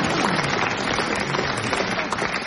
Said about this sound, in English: The audience have got it. Yeah. Go on. Bailey's Bees. Congratulate yourselves. Have a good clap.